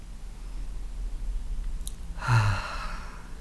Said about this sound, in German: Und atmen Sie einmal tief durch, am besten durch die Nase ein und durch den Mund aus.